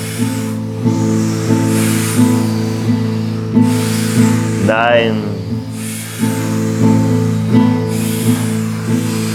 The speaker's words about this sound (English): Breathing enthusiastically, like a happy puppy. For 10.